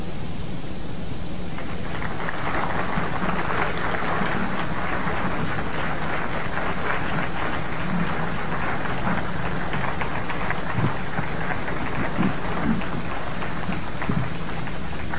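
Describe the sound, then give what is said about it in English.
A crowd breaks into sustained applause for Elaine Smitha, a dense, steady patter of many hands clapping that swells after a soft start and continues at an even loudness throughout, with no voices. “Give a large round of applause for Elaine Smitha and for the unseen guests in our lives that can't be with us.”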